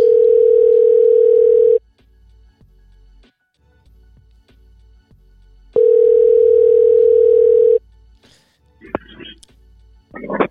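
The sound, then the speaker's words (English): A telephone ringback tone purrs twice as a call is placed to a man, each steady ring lasting about two seconds with a long quiet gap between, loud and clear over a faint line hiss, followed by a brief voice at the end. “Let's see if we can get … on the phone”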